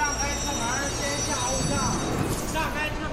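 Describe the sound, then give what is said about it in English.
A subway train in Beijing rolls along steadily, a loud rumble with thin high-pitched metallic whines riding on top, and faint murmuring voices mixed into the din. “This month, the government opened its fifth subway line, cutting through the centre of the city and heading out to the suburbs.”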